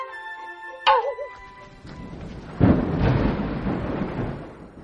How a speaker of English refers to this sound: As soon as you mentioned rain, it started pouring.